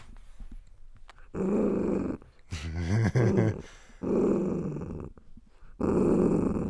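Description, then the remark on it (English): A dog growls angrily in three long, rumbling bursts separated by short pauses, with a higher whining or yelping sound in between. The growls are fairly loud, with no talking. “The dog's growling. Wow. He's angry.”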